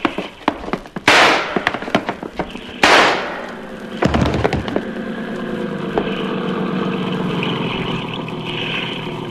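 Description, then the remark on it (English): After a few small clicks, Yancey fires two loud, sharp gunshots about two seconds apart, each cracking and trailing off in a brief ringing decay; the first shot misses. A steady, low motor drone then continues alone. “Yancey got two shots. The first one missed me.”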